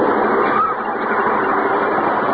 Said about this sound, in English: That noise that you hear in the background is the diesel engine.